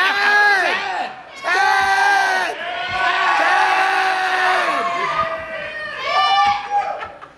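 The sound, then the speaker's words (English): A group of voices loudly yelling a person's name, drawn-out shouts that overlap and swell in repeated bursts, raucous, with no other sound beneath them. “Stop yelling my name. I look every time.”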